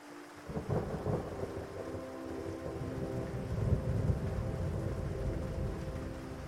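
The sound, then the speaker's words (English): Heavy rain pours down steadily during a storm at sea with frequent lightning, a deep, rolling rumble of thunder swelling underneath, a continuous dense wash of storm noise with no voices. “The rain pours down, and all you can do is keep the bow of the boat facing all of the waves that are coming at you.”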